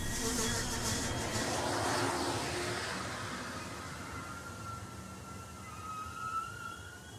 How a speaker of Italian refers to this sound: Salisburgo, stazione di frontiera di Salisburgo. Il treno proseguirà per Salisburgo Centrale. Arrivo previsto 11:29.